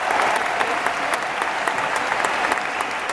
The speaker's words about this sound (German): Also man hört schon tosender Applaus, stehende Ovationen. Die Washingtoner Bischöfin wurde quasi wie ein Popstar empfangen.